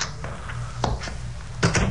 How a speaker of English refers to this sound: I was examining these, especially those involving a bit of cheesecake, when I heard a key in the door of the private entrance.